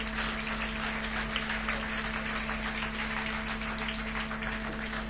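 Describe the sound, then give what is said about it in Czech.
A crowd applauds steadily for about five seconds to welcome a guest at an evening talk, a dense, even wash of many hands clapping with no voices, over a faint low electrical hum. “pojďme mu zatleskat a pojďme ho tady přivítat.”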